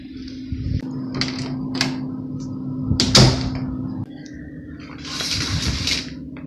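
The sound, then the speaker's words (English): A door shuts with a solid thud amid some handling noises, then the long swishing slide of curtains being drawn follows, all over a steady low electrical hum. “If we're gonna do this, we might as well try to close the door and close the curtains in case.”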